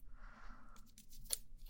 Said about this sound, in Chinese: 我只要轻轻地用剪刀